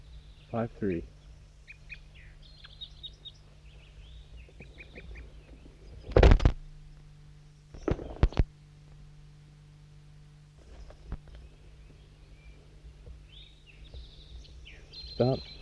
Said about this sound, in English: Recording at 7:11 a.m. and I got the net set up at the hilltop, and that's 5-3 calling to some wild birds that just arrived on the scene about 30 seconds ago.